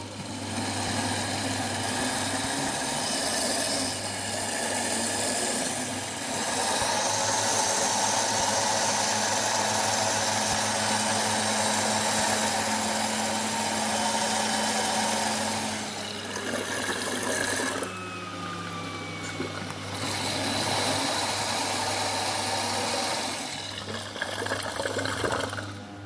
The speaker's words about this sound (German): Genau. Jetzt haben wir alles reingemacht und jetzt machen wir den Mixer an.